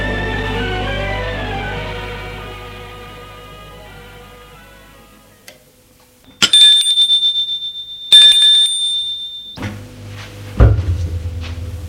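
A doorbell at the door of a Louis XV mansion on Boulevard Saint-Germain rings twice in quick succession, a bright, high metallic ring with a rattling buzz, after a fading sustained tone. A soft thump and low rumble follow.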